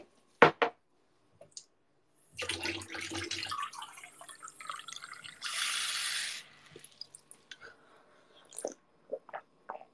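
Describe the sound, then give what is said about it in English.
A tap runs for about four seconds, filling a glass with water, its rushing stream briefly turning brighter and hissier, framed by a few sharp clicks and clinks of handling before and after. No one speaks. “I'm gonna get some water and hydrate.”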